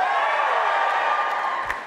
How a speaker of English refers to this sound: See, same as the other night, the poppadoms sound happier. Yeah. I mean, there were definitely a lot of people cheering both there.